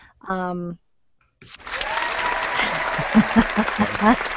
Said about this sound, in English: We need applause.